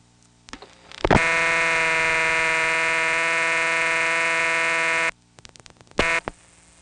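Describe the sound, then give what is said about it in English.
A harsh, buzzing telephone double ring sounds steadily for about four seconds, falls silent, then returns as a brief short burst, its raspy electric tone rich in high overtones with no talking. “The double ring was originally designed for multi-party phone lines.”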